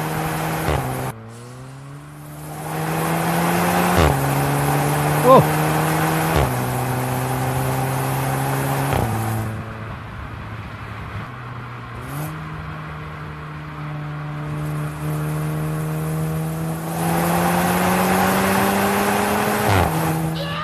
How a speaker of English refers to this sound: This is the just a night drive in the VW GTI Club Sport. Middle of Joburg, 3 o'clock in the morning.